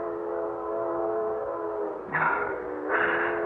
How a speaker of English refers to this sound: Oh, that train whistle, it's been driving me bats all morning. I must be hearing things. There aren't that many trains a month through Dover Ridge.